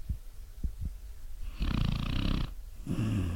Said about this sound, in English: Can you hear my dog snoring?